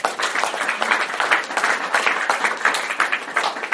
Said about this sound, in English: I haven't gotten applause like that since I was born. I appreciate it.